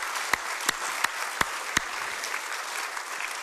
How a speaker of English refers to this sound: Everybody who's a dad in the house today on this Father's Day, stand. Let's give them a hand clap today. Come on.